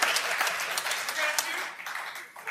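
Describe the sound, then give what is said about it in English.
A burst of audience applause during a stand-up comedy set, after board game jokes, many hands clapping at once in a dense, hissing wash that stays steady and fairly loud before thinning slightly toward the end. “I gotta be honest, I feel like that was kind of a forced applause break.”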